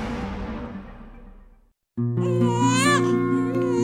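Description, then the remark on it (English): A newborn baby cries loudly and steadily, its wailing voice rising and wavering, starting right after a brief silence that follows a fading crash-like noise. “The first cries of a newborn baby signal the miracle of life.”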